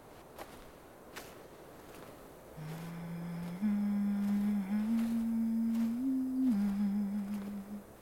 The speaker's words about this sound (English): I'll hum to put you at ease.